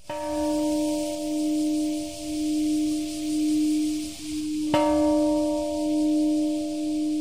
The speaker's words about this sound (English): Today's ceremony began with a traditional offering of water to the dead and the ringing of a peace bell.